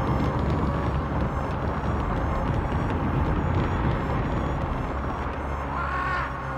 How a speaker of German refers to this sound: Gerade als sie nach kurzer Rast hindurch wollten, stürzte mit lautem Gerumpel und Getöse eine Steinlawine herunter. Zurück!